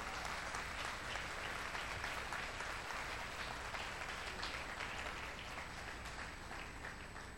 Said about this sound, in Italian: Fallo forte questo applauso.